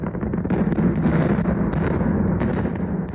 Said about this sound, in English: These blasts around its pit are carving out a precious mineral, manganese.